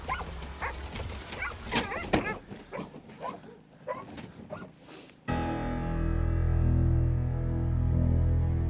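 Police dogs of a canine brigade bark in a rapid, agitated burst of repeated sharp barks for about five seconds, then the sound cuts abruptly to a loud, steady low rumble like an idling engine.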